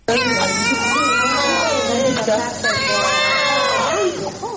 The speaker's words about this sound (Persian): گریه های دوگانگی به هم چسبیده، اینان عصر روز پنج شنبه در شفاخانه نسایی ولادی هرات متولد شدند. این دو نوزاد حدود 4500 گرم وزن دارند و بطنشان در داخل رحم به هم پیوند خورده.